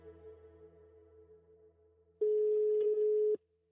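A telephone line tone after the other party hangs up the receiver: a faint steady hum, then a single loud, harsh electronic beep lasting about a second before stopping abruptly. No voices.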